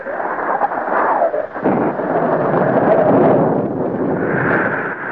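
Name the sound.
heavy rain and thunder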